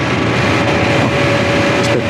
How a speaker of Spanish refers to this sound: ¿Escuchan? ¡Qué sirenas! Ahí, varias lanchas policíacas parten de los muelles.